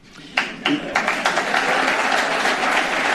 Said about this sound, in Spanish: Aplaudiments per a un Florentino Pérez orgullós del resultat que qualifica d'extraordinari.